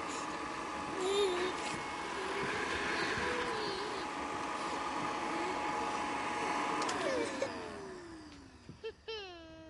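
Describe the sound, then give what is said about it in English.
A vacuum sweeper runs with a steady, whining drone, then its motor winds down with a falling pitch near the end, followed by a few brief clicks. “Look, it's a vacuum sweeper.”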